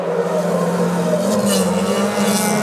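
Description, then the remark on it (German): Formula 1 race car engines drone loudly and steadily with a sustained, slightly rising whine, a continuous mechanical roar with no pauses, heard alone. “Ihr kennt das vielleicht, das Heulen der Motoren.”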